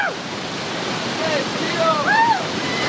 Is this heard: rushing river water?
yes